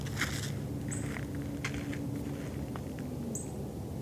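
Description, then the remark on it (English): Two light, high-pitched junco chip calls, a lighter chip not as sharp and harsh as a cardinal's, spaced a few seconds apart, sound over a steady low rumble with scattered soft rustles and clicks. No one speaks. “That's a junco chipping. That's what I'm hearing.”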